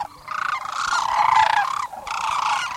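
Loud, rolling bugling calls of sandhill cranes, some 20,000 of them taking off at dawn in Kearney, Nebraska, overlap continuously, a raspy, trilling chorus from many birds with a brief dip near the end before the calling swells again. No one speaks.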